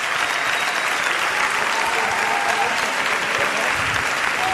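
Loud, sustained applause from an audience for a group of ten people, a dense wash of clapping that holds steady at full volume for several seconds with no talking over it.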